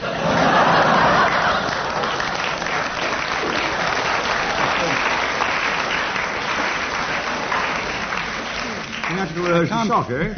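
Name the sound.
audience applause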